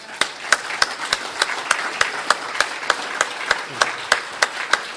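A crowd applauds the speakers at a meeting steadily for several seconds, a dense wash of clapping with one pair of hands beating out sharp, evenly spaced claps above the rest.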